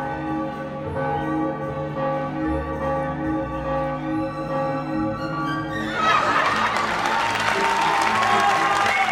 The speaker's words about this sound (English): The crowd cheers.